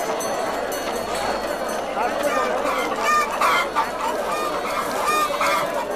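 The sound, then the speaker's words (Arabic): A crowd of local chickens clucks and squawks continuously, a busy overlapping din, with voices talking in the background as a vendor calls out selling the chickens cheaply. “حسنا يا كاكا، خذ دجاج بلدي، تعالوا لدينا جميعا واحد دجاج. دجاج بلدي ثمنه رخيص، دجاج بلدي.”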